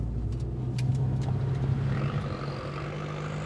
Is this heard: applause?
no